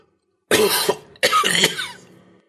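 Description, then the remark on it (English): Two harsh, rasping coughs in close succession, loud, each a strained burst that trails off roughly, sounding painful. “Megan looked back at the obelisk, wincing at how painful the last cough had sounded”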